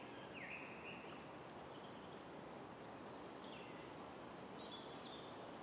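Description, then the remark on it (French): Faint, scattered bird chirps and short whistled calls drift over a steady, hissing outdoor background, like birdsong in a quiet forest. “Vous percevez le chant des oiseaux.”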